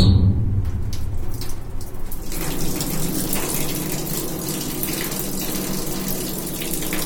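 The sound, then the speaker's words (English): Water runs steadily into a very large sink as a screen is washed out after screen printing: a continuous, loud gushing stream with a low booming rumble underneath and brief splashy bursts at the start. “But when I'm screen printing, I wash out the screen afterwards in a very large and booming sink.”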